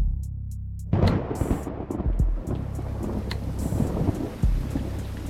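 After a near-silent second, heavy rain abruptly starts and keeps up as a steady, dense hiss, with deep rumbling thuds beneath it and no voices.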